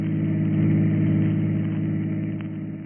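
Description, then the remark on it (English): A chauffeur-driven car's engine hums steadily at a moderate level, a continuous low droning rumble of the vehicle cruising along in the country, with no voices over it. “We find him now in his chauffeur-driven car, and with him is the lovely young girl, 15 years his junior.”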